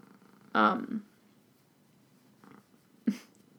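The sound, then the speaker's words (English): A female cat purrs, a soft low rumble running steadily under everything, broken by a couple of brief louder vocal sounds. “Cat's got her purr on.”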